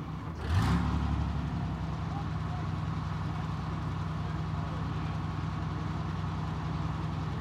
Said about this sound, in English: "Come on, close the hatch, Knight," Yamoira says, and revs up the engine.